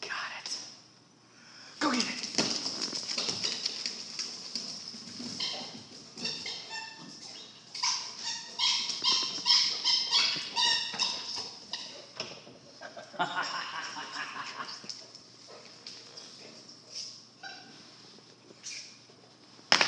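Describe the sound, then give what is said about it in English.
A dog whimpers and whines in high-pitched, squeaky bursts, with a few short yips mixed in, sounding excited and playful through most of the stretch while playing keep-away with a toy. “Dirty dog.”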